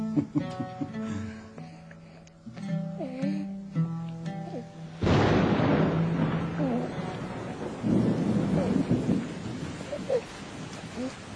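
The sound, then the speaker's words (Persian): After a few seconds of tonal, music-like sounds, a sudden loud thunderclap breaks in, followed by steady, heavy rainfall with rumbling continuing through to the end. “باران هم از برکت قدوم توست فرزندم.”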